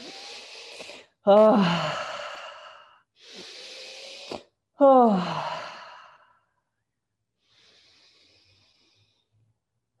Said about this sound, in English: Opening up the throat. Deep breaths with sound, every exhale loud enough for you to hear yourself now.